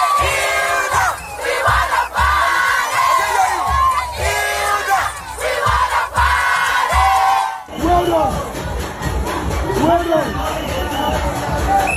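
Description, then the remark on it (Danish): A large audience roars with loud, continuous cheering, shouts and whistles, the excited din rising and falling in waves for the whole stretch. “Der er altså fløjter og tilråber, og de hæpper og alt det der.”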